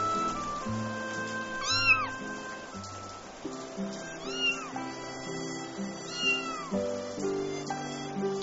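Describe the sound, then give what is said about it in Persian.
A wet, lone kitten in an alley in the rain meows three times, high-pitched rising-and-falling cries spaced a couple of seconds apart, over a steady background of soft instrumental music. “بچه گربه ای دیشب توی کوچه ما بود، مانده بود در باران، خیس خیس و تنها بود.”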